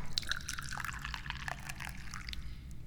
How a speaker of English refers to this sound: And I'm the guy who starts it because I'm the chairman of the Dubious Goals Committee, and I always start it by pouring the tea.